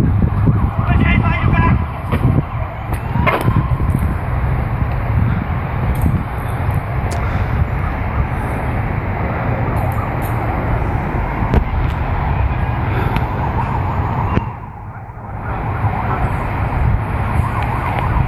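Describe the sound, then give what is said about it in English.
Sirens of approaching police cars, coming after a shots-fired call, wail through a loud, rumbling wash of traffic-like noise that runs the whole time, with muffled voices breaking through now and then. “Obviously, you can hear other cars are coming because he called in shots fired.”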